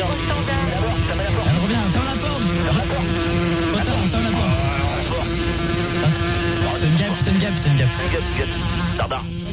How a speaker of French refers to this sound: Gérard, une mouche.